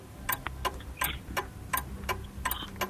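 A ticking clock timer counts off steady, sharp ticks a few times a second, clear over a low background hum, with no one speaking.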